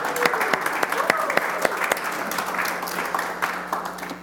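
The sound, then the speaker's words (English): A church audience claps for the worship team after morning worship: a dense wash of overlapping hand claps with a few sharper individual claps cutting through, moderately loud and sustained for several seconds. “We should give those guys a clap today.”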